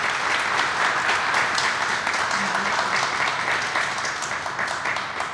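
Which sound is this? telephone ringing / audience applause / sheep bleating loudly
audience applause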